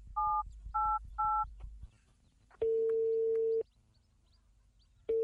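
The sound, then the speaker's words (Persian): A phone number is dialed to call the speaker's father, with three quick, evenly spaced keypad beeps, followed by a long steady ringing tone that starts again right at the end. No one speaks. “راستی باش با پدر زنگ بزنم که دیده باشه یا نه.”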